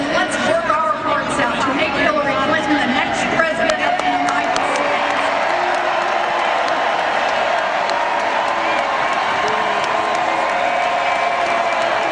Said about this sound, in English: That's a whole lot of boos.